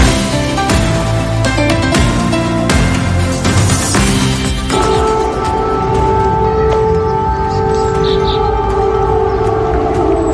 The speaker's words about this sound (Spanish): El sonido de las sirenas que avisan de nuevos ataques aéreos en Ucrania